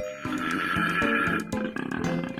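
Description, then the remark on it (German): A male koala in Australia bellows to impress females, a loud, deep, rasping call of rapid rhythmic snore-like grunts that rises and falls over a couple of seconds, with no other sounds around it. “So tief klingen männliche Koalas in Australien, wenn sie Weibchen beeindrucken wollen.”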